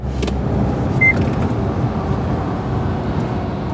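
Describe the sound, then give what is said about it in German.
A steady, loud low rumble of a truck cruising at 90 km/h along the A38 motorway, engine and tyre noise droning continuously with no pauses and a brief faint whine partway through. No one speaks. “zieht derweil mit Tempo 90 die A38 entlang. Auf der rechten Spur reiht sich inzwischen LKW an LKW.”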